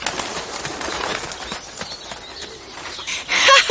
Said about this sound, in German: Ja, und zwar richtig gut. Schau mal, die Vögel sind alle weggeflogen.